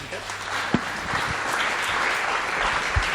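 An audience applauds steadily to welcome a speaker before a talk, a dense wash of many hands clapping at even loudness throughout, with a few sharper individual claps standing out.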